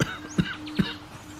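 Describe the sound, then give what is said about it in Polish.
A short coughing fit: three sharp, evenly spaced coughs, each a quick harsh burst, with no talking around them. “Coś mnie, słuchajcie, jakiś kaszel taki tutaj na chwileczkę wziął.”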